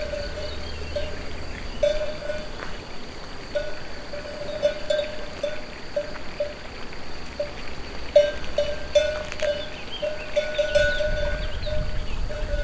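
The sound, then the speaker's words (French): A livestock bell on a small mountain pasture clanks irregularly in short bursts of metallic ringing over a steady background of wind gusts, insects and a trickling stream, with no voices. “Un ruisselet, une sonaille.”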